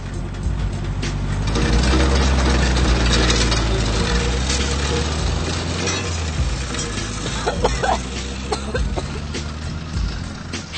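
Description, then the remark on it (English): The engine of an old car with a broken exhaust runs steadily at a garage with a loud, rough, throaty rumble, plus occasional clanks and rattles over the continuous drone. “Dein Auspuff ist kaputt.”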